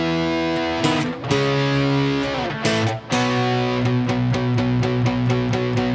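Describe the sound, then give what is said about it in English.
Heavily distorted power chords on a Les Paul electric guitar ring out loud and sustained, changing every second or so with a brief gap, then driving steady chugging hits near the end. No voices. “And then, as expected for our Les Paul doing the power chords, we'll have the distortion.”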